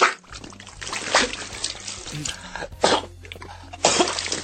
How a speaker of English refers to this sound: He's drowning in puke. You can hear him gasping for air and coughing.